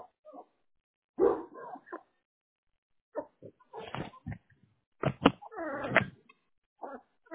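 A puppy being fed lets out short, scattered barks and yips in uneven bursts, with brief quiet gaps between the outbursts.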